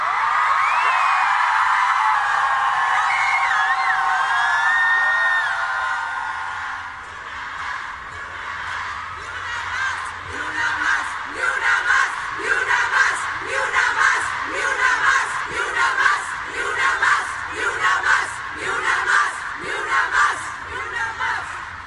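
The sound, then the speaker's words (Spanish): A large crowd of protesters demanding a search for missing women and justice for murdered women roars and shouts together at full volume, calling on the president to hear them, then settles into a rhythmic chant with steady, repeated bursts of many voices. “Vamos a gritar fuerte para que nos escuche el presidente y nos escuchen en todo el mundo.”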